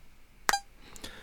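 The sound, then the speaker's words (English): A sharp fingernail tap against a hard surface coincides with a short electronic test beep from a tap-to-tone latency measurement app, followed by a couple of softer taps; quiet, with no talking. “It records this fingernail and the beep sound,”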